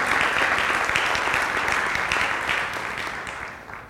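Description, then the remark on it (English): A crowd applauds the worship team, clapping steadily in a dense, crackling wash of applause that holds strong for a few seconds, then gradually thins and fades toward the end. No one speaks over it. “Give our worship team a round of applause.”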